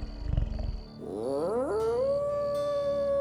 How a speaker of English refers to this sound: Guzman howled at the moon and ran through the brush like something born in perfect unity with the Monty.